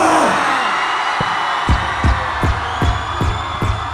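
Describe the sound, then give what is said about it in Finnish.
A large concert crowd at the Radio Mafia Scandinavian Hip Hop Summit concert at the 2001 Pori Jazz festival roars and shouts loudly on a count of three in a sustained wall of noise, with heavy bass thumps pounding at a steady rhythm underneath. “Niin et tuolla Ylen autossa, kun se tulee suoraan radiosta, jengi teidän himassa on silleen, vittu et ne huutaa.”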